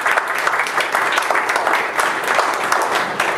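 Steady audience applause, a dense patter of many hands clapping at an even, sustained loudness for a few seconds with no voices standing out.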